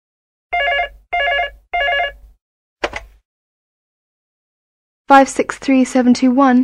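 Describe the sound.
A telephone rings three times in an even rhythm, clear, as a man in England calls his sister to ask how to use the water heater, then a sharp click like a receiver being lifted, and after a short pause a person begins talking.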